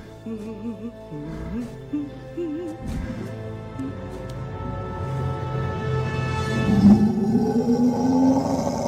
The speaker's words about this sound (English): Now that's a roar